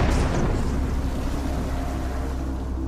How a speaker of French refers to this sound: Parti. Oui, explosion.